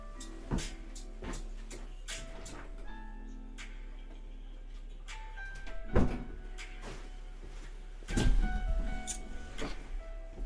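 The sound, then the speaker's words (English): A door being opened to let a dog out: a few sharp clicks and latch rattles, then heavier thumps and a scraping knock near the end, over a faint steady background. “I just have to let him out. He's at the door.”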